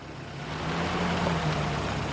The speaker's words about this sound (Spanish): Álvaro se toca la frente en señal de despedida y se va con su coche.